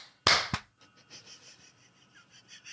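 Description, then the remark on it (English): A clapper snaps twice in quick succession, the first crack louder and fuller, the second short and sharp, then a faint high-pitched hum lingers afterward. “Well, do we need to clap? Yes. The clapper.”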